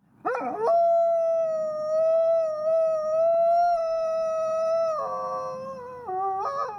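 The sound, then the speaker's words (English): A Mexican gray wolf, or lobo, howls alone, swooping up into one long, steady, mournful note, then stepping down in pitch near the end before a brief rising break. “researchers have counted more than 200 Mexican gray wolves, or lobos, living in the wild.”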